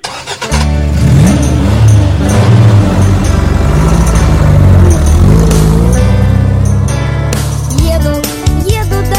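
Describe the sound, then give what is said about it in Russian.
A loud, steady truck engine hums and rumbles for several seconds, its low drone rising and falling slightly in pitch, with no talking over it. “Он на дне мешка лежит, у него мотор гудит. Грузы он возить привык, это дети, грузовик.”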